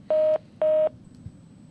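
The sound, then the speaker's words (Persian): Two short, steady electronic phone keypad beeps, evenly spaced and clearly heard over a faint background hiss, like buttons pressed to put a caller on hold. “آره، اینو لطف کنید من میذارم تو رو هولد، از بچه های تکنیکال بپرسید که تو استودیو هستن، جواب تلفن شما میدن.”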